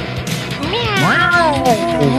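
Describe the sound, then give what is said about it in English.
Several human voices imitate a cat's meow together, drawn-out rising and falling mews that overlap for about two seconds, fairly loud. “Meow with me!”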